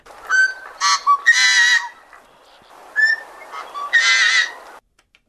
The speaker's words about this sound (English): Well, that's the song kind of opposite of the hermit thrush, where the hermit thrush is maybe the prettiest and most ethereal. This one people think of as like kind of the ugliest, kind of a nasty song.